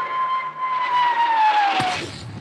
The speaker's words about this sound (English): Then the Royal Canadian Air Force will fly overhead towing a 10-ton maraschino cherry, which will be dropped into the whipped cream to the cheering of 25,000 extras.